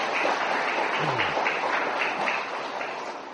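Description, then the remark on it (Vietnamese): A crowd of children applauding in praise of the merits of the abbot who hosts them: dense, continuous clapping that holds steady for the whole stretch, a busy crackling wash of many hands with no pauses and no voices. “Tụi con vỗ tay nhiều chừng nào thầy trụ trì khỏe nhiều chừng đó đó tụi con à.”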